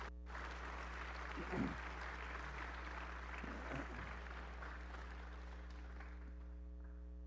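A crowd of people claps steadily for several seconds for four people who have made a huge decision, a dense wash of applause with a low electrical hum running underneath throughout.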